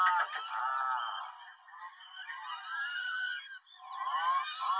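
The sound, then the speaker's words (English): A bird, heard from a played video, calls nearly nonstop in harsh, nasal, honking squawks. The calls are loud, with brief dips between bursts and no voices present. “That's a bird? Yes.”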